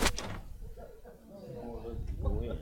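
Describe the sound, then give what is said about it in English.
A couple of sharp, confident knocks on a door sound in quick succession, followed by a man's voice talking over light background noise. “My knocking is different too.”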